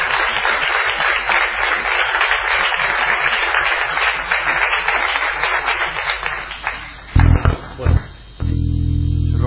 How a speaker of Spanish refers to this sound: ¿Sabes que se me durmió la mano recién aplaudiendo?